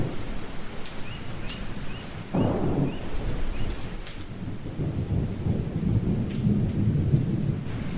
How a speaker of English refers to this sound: Oh no, it's showering. Oh God, so let me take shelter in a cave above here.